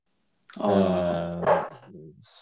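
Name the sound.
dog barking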